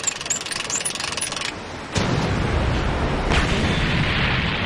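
cannon firing a shot

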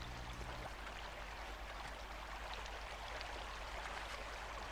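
flowing river water

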